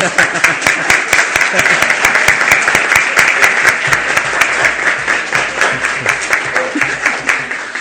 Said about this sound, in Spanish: aprobado por unanimidad el proyecto de ordenanza 807. Pueden aplaudir.